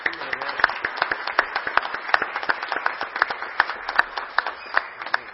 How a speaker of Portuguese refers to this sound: Eu gostaria assim que cada um de nós desse uma salva de palmas para eles, por eles estarem aqui presentes.